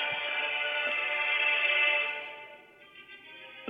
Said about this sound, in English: I'm getting a phone call. I'm going to leave it alone.